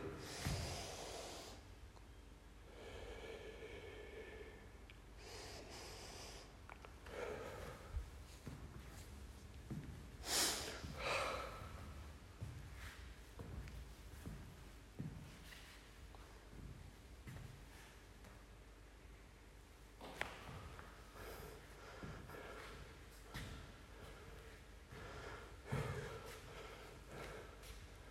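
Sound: heavy panting breaths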